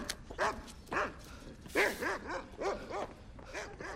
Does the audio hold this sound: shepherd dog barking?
yes